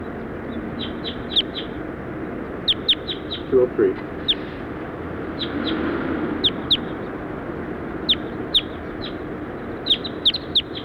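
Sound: bird call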